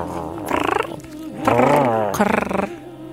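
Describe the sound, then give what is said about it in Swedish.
A person imitates a cat's purr with a throaty, rolling rumble in three close bursts, fluttering and fairly loud, with no clear words spoken. “Ja, du låter som, vad heter det, kurrar. Spinner.”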